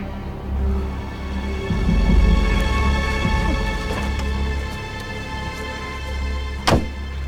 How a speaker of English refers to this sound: As he gets out of the car, the opening door swings shut on his bruised legs. Oh!